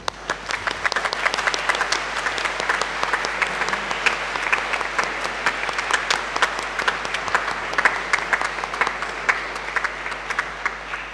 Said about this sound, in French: Un grand merci à vous, nous pouvons vous applaudir.